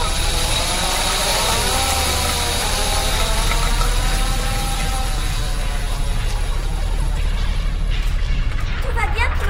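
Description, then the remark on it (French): A metro train pulls in with a loud, steady rumble, its electric motors whining in tones that slide and waver in pitch, the noise continuing unbroken the whole time. “Les affiches, les ailes, voilà le métro.”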